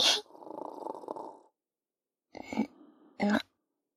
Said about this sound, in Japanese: 隣の個室、いびきうるさい。お互い寝カフェで寝てるんだからもうちょっと気を配ってほしいなぁ、もう。